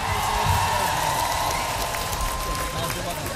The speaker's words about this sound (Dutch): Applaus voor jullie, man!